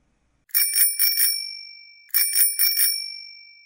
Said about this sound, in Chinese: 一阵清脆的铃声打破了深夜的寂静，由东向西驶来一辆自行车。骑车的是一位体态苗条、身披素衣衣的青年姑娘。她一面急速地骑着车，一面不停地按铃给自己壮胆。